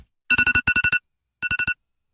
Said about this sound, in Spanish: El despertador, suena el despertador para los chicos y seguimos conversando porque está muy interesante lo que decís, ¿sí?